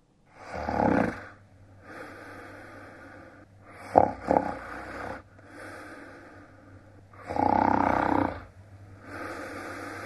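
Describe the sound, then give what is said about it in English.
A person snores, with loud, rough rasping snores every few seconds alternating with quieter breaths, over a steady low hum. No one speaks. “And, of course, that's a variant on a noise that I guess would combine both disgusting and annoying, and that, of course, is the snore.”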